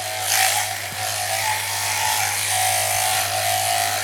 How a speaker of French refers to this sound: Donc j'ai ma main gauche qui vient tendre la peau aux endroits un peu compliqués et la main droite qui tond. C'est vraiment le jeu de jambes qui fait la contention de la brebis. Moins on utilise les bras, mieux ça se passe.